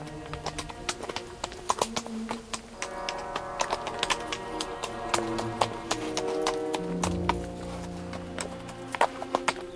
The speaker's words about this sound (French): Le cheval allait d'un pas de profond sommeil.